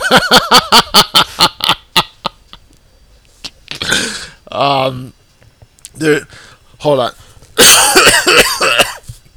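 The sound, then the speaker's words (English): A loud coughing fit: a rapid string of about a dozen short hacking coughs, then heavier, raspy coughs and wheezing gasps spaced out over several seconds. “Hold on, I'm having a major coughing attack.”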